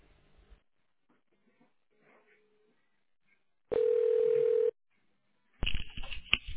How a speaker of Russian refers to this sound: Если вы знаете внутренний номер сотрудника, наберите номер в тоновом режиме и клавишу «решетка». Или дождитесь ответа секретаря.